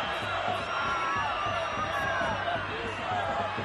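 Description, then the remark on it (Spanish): A section of the crowd at the Camp Nou football stadium chants "Písalo, písalo" in unison after a foul by Dembélé on Alderete, a dense, steady roar of many voices with a rhythmic pulse, loud and continuous throughout, with no other sounds standing out. “Dembélé hizo una entrada que vio amarilla, una entrada sobre Alderete y un sector del público del Camp Nou gritaba esto.”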